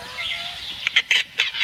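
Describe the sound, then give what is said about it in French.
A capercaillie's (grand tétras) pig-like call, very guttural and made from the back of the throat: a raspy, hissing rattle that breaks into three or four short, harsh bursts, fairly loud against a quiet background. “Ça, c'est ce qu'on appelle un cri de cochon.”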